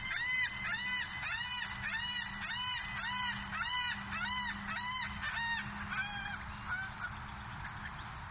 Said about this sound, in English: took a canoe trip through Prime Hook up Broadkill Creek, enjoying ospreys, seaside sparrows, and a flock of laughing gulls resting on the creek.